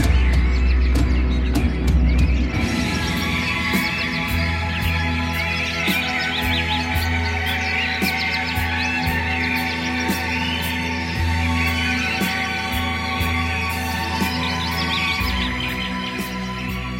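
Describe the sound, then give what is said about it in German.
A dense chorus of chirping, twittering birdsong fills the air continuously, layered over sustained orchestral music with steady low tones underneath. No one speaks. “Welch eine Vogelstimmensymphonie. Solch ein opulentes Gezwitscher kann nur der Auftakt eines herrlichen Frühlingstags sein.”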